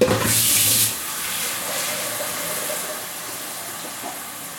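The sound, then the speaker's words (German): About 2 liters of water pour into a large, wide cooking pot with a loud, hissing rush for about a second, then continue as a steadier, softer splashing flow until the end. “Großen weißen, großen weiten Topf und ungefähr 2 Liter Wasser.”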